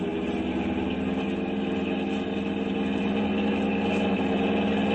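A car engine roars at high, steady revs with the accelerator floored while the car flees a pursuing police car. A loud, continuous droning rumble with no voices over it.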